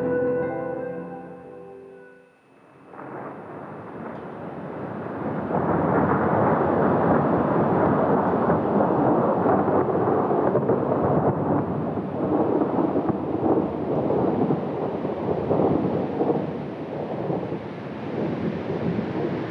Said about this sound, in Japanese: 4月8日19時過ぎ、仙台市で突然春の雷が鳴り出しました。雷こそ二度と同じ音にはならないものの一つ。すかさずマイクを持って外に飛び出しました。